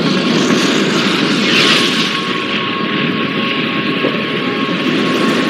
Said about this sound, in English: You got those five giant engines and they ignite. And it takes the remainder of the countdown for them to build up that 7.5 million pounds of thrust. 5, 4, we have ignition. All engines are running.